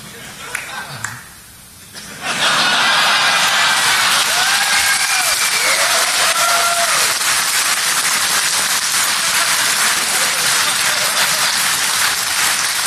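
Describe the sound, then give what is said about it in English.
A crowd at PartyTrack bursts into loud, sustained applause for the court reporter after a brief quiet moment, the dense clapping holding steady to the end, with a few rising whoops and whistles cutting through early on. “So how about just one more time for our court reporter here in PartyTrack, let's make applause show up on that screen.”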